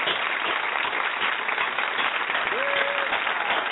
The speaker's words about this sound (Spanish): Bienvenido a Yadier Molina a este, el programa producido por él mismo, Solo Deportes, y lo recibimos con un fuerte aplauso de parte del estudio La Fanaticada.